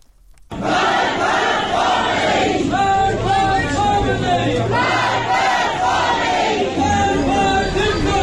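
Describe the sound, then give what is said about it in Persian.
A large crowd of protesters chants slogans at the mourning ceremony of Sam Beiranvand, a 20-year-old protester, loud and sustained, with many voices rising and falling in rhythmic shouted phrases and a constant roar of voices underneath. “بر اساس ویدیوهای منتشره، ماموران روز گذشته در مراسم سوگواری سام بیرانوند، جوان تظاهرکننده 20 ساله، به معترضان حمله کردند در حالی که تظاهرکنندگان شعارهایی سر می‌دادند.”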